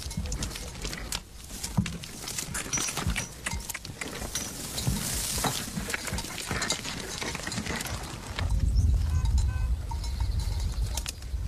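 Cowbells clank irregularly alongside the uneven clopping of fake mule hooves in a film scene showing a mule, over a steady wash of background noise that swells into a low rumble toward the end. No one speaks.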